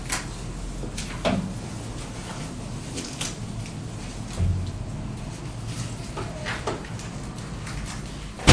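A few scattered knocks and thuds from a door being moved and closed, over a steady low background hum, with a sharper bump at the very end.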